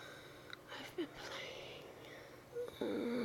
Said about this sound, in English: Can you hear my voice? Can you hear my breathing?